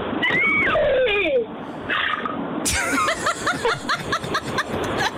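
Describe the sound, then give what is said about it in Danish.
An 8-year-old girl imitates a horse whinnying on a Danish radio show's animal-sound contest: a wavering, high-pitched squeal gives way to a long run of rapid, quavering vocal pulses that drop and repeat, fairly loud, with no talking. “Lad os høre den lille, fine hest på 8 år.”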